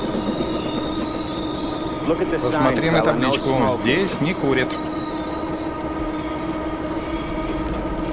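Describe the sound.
A metro train rumbles steadily on the tracks inside a tunnel, loud, with wheels squealing briefly in the middle while a man speaks over the noise.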